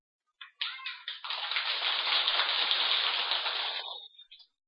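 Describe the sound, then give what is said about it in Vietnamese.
An audience of Buddhist followers breaks into applause, a few scattered claps quickly swelling into a dense, steady roar of clapping that holds for about four seconds before tapering off. No one speaks. “Tràng vỗ tay của quý vị cho thấy quý vị đã cam kết và nhận thức được rằng đây là nguồn hạnh phúc mà chúng ta cần phải tình nguyện làm.”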